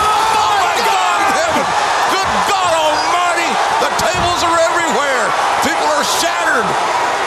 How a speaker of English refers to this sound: It's incredible. This crowd's gone wild. Holy hell.